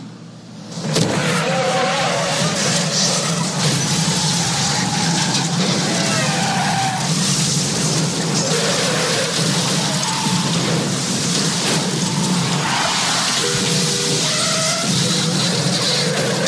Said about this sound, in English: It's still happening. He threw the doll a minute ago, and there's still cars crashing into each other.